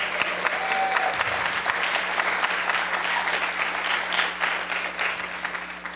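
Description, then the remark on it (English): An audience applauds steadily for the full six seconds, a dense, even patter of many hands clapping at a consistent loudness, with no voices rising above it. “I hope you're applauding the awe, because that's it.”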